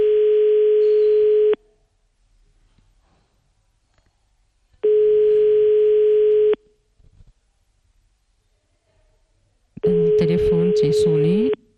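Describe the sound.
Three long, steady telephone ringback tones repeat at a slow, even cadence with quiet gaps between them, a call to the phone of the woman who runs a centre or association sheltering elderly people in Beni Mellal going unanswered; a man's voice talks over the third ring.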